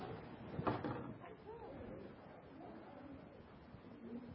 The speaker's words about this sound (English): would you mind to shut that door a little bit?